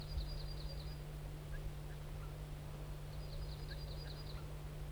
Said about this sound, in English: The crossbill wild bird gave some type 1 alarms and then flew up to a spruce. There he's giving alarms again.